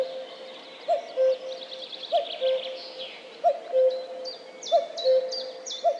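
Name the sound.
common cuckoo call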